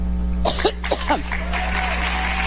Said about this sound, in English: They clapped.